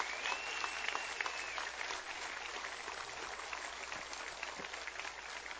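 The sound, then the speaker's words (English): A crowd applauds steadily, a dense wash of many hands clapping at once, sustained and fairly even in loudness throughout, with no talking; the applause is for the people who made the event possible. “Again, let's hear it for all those people that make this possible.”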